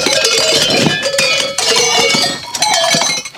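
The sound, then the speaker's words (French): A metal sheep bell, an 11 cm mountain clavela held in the hands, the bell worn in the middle of the flock, clanks and jangles continuously in an irregular rhythm, its bright ringing tones overlapping as it swings, with no voices present. “La dernière, on l'appelle le clavela, c'est le symbole de la maternité.”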